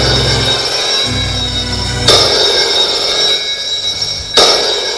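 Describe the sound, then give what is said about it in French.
An old-style telephone bell rings continuously with a bright, metallic trill, broken by two sharp clanking hits about two seconds apart. There is no talking. “Une fois qu'il a fini de manger, le téléphone sonne.”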